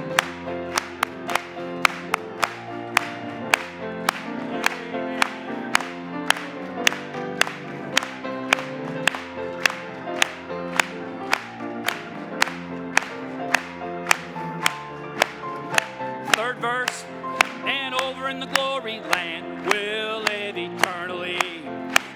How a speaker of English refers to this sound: And let's clap it to Him.